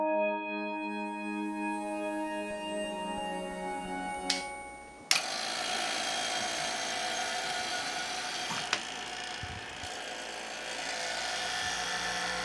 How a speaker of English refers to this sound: What's that pump doing right now? Oh, just pulling vacuum in here.